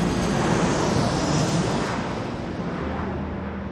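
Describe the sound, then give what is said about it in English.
A loud, steady roar of an airplane engine on a flight to Orlando, Florida fills the whole stretch, broad and rumbling, easing slightly in intensity toward the end with no voices present. “The group and all of their parents packed up, boarded their planes, and were going to Disney World.”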